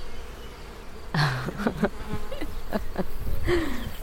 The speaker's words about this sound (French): Voilà, notre belle acacia, tu peux sentir les fleurs, ça sent très très bon. Et on entend les abeilles qui sont au travail, là.